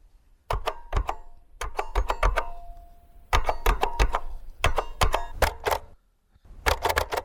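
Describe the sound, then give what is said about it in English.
Push-button telephone keys are pressed in quick bursts of sharp plastic clicks with brief pauses between groups, and a short steady tone sounds once partway through. No one speaks. “It is a push-button phone.”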